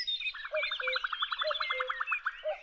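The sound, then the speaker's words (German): Several songbirds sing at once in a dense spring chorus in Germany, one bird's rapid trill of repeated notes layered over high whistles and short warbled phrases, steady throughout. “Das große Vogelorchester ist in voller Besetzung.”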